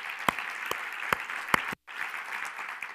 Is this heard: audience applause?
yes